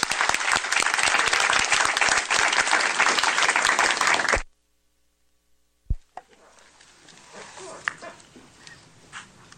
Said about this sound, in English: How about we give her a round of applause?